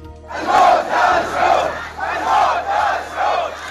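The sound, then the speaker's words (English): A large crowd of protesters in the Saudi Arabian village of Al-Awamiya chants "Down with the Saud, death to the Saud" in unison, loud, with rhythmic bursts of voices rising and falling in a steady repeated cadence, after the beheading of a prominent Shiite cleric. “A crowd of protesters in the Saudi Arabian village of Al-Awamiya chanting, "Down with the Saud, death to the Saud," after today's beheading of a prominent Shiite cleric, Nim al-Nimra, and 46 others convicted of terrorism by Saudi Arabia.”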